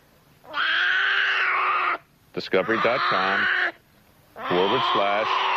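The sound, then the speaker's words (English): A bear growls in three loud, harsh bursts, each lasting over a second with short pauses between, the second one rising and wavering in pitch. “You can't growl and swallow at the same time.”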